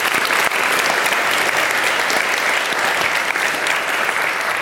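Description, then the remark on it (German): An audience claps steadily and loudly in thanks to the crowd-management firm Safer, a dense wash of many hands that holds at an even level for several seconds with no voices standing out. “Bitte einen Applaus an dieser Stelle.”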